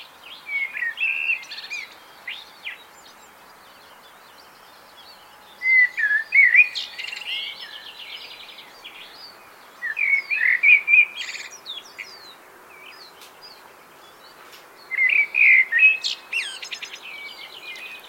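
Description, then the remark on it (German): Birdsong in a misty, fog-covered morning park: four bright, twittering phrases at regular intervals, each lasting a second or two, sung over a steady low hum of car traffic. “Im morgendlichen, nebelverhangenen Park nehmen wir den Verkehr eher als eine Art symphonische Begleitung des Vogelgesangs wahr.”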